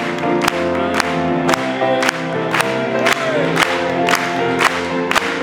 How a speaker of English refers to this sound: Oh, praise God. Let's clap it to him.